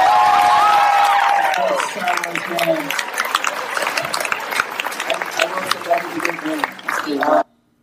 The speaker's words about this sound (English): You can't hardly hear it at the very end because the crowd is like going flipping nuts at the end here.